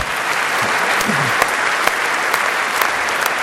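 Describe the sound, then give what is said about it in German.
An audience applauding steadily, a dense wash of hand claps with a few sharper individual claps standing out, fairly loud and continuous throughout. “Also das fand ich echt einen Applaus wert.”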